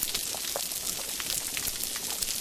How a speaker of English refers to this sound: And so by playing the sounds of healthy reefs, it brings the fish back. They start swimming towards these speakers, playing the sounds of these healthy, popping, spluttering, busier reefs.